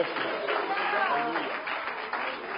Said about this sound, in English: Can you clap for praise on this Sunday? Hallelujah. So do y'all.